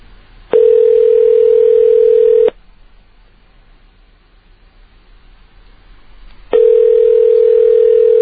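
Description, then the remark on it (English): Ringback tone of an outgoing phone call: a steady electronic tone sounds for about two seconds, pauses for four, then starts again, clear, with a faint line hiss between. “I can picture people online, 7-Eleven, buying cigarettes, lottery tickets, and the phone is ringing, and this guy has to step away from them to answer this question.”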